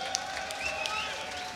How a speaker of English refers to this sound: Well, before we go any further, would you please join me in giving a big round of applause